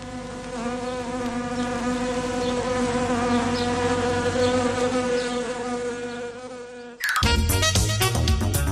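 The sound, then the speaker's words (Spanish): A swarm of wasps buzzes in a dense, steady, loud drone for about seven seconds, used as the opening of the radio segment 'El avispero' on COPE Cantabria, then cuts off abruptly as music begins. “Que empiece ya el avispero, que ya están sentados están sentadas las avispas de hoy martes.”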